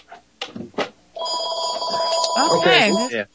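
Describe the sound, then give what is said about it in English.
A telephone rings with a steady electronic tone that starts after a second and keeps going to the end, loud, while someone talks briefly before and over it. “The phone goes off.”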